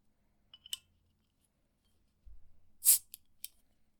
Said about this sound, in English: All right, so excuse all the background noise here while I open my beer.